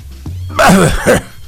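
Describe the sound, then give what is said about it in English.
A man coughs twice, a loud, rasping, strained burst followed by a shorter second hack, with a low background hum. “That's the way you cough.”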